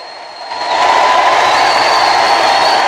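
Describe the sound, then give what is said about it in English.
A large crowd of prisoners roars and applauds a wrestler in a wrestling ring, a dense wash of cheering that swells after a moment and holds steady and loud, with faint whistle-like tones riding above the noise. “In the centre of the ring, he slowly revolves, milking the applause, his arms held aloft.”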